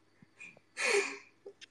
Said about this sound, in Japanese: 悪い、俺のくしゃみが。君のくしゃみだったの？女性だったけど。